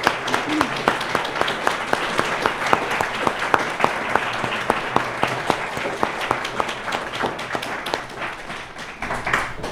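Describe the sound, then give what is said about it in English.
A Unitarian Universalist audience applauds its standing first responders and teachers steadily for about ten seconds, dense overlapping claps with sharper individual claps popping out at an irregular rhythm, fairly loud throughout. “And I would like everybody to give them a round of applause.”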